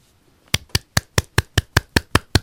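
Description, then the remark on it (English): A single person applauds alone, clapping their hands about ten times in a quick, steady rhythm. Each clap is a sharp, bright slap, and no one speaks. “Do you hear my applaud?”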